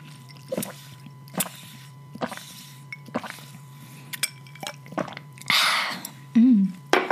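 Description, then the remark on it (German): Quiet sips and wet slurps through a thick straw from cold, unsweetened tea with ice cubes, with small clicks and clinks of ice between pulls, ending in a louder gurgling draw near the bottom of the drink. “Ich hoffe, ihr habt alle euer Getränk bis jetzt geschnappt und wir trinken jetzt alle kurz.”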